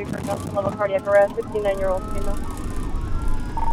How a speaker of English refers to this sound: in a green and white Paramedics Plus ambulance racing to a 911 call in Fremont. We bump over train tracks and swerve through mid-afternoon traffic.